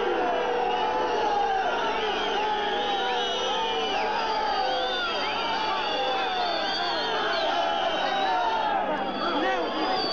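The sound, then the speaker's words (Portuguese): A large crowd in front of the Carmo barracks boos loudly at 18:39 as military vehicles begin to move, a sustained, dense, overwhelming roar of many voices that fills the whole stretch without pause. “Uma vaia tremenda da multidão.”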